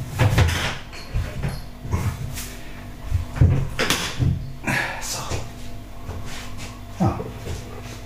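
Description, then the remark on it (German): Handling noises: a soft rattle and shuffle as used pads are tipped into a bin, followed by a few knocks and thuds of a cupboard door being shut, with a voice murmuring in the background. “Und wir kippen die Pads weg. Ist ja klar. Die brauchen wir nicht mehr.”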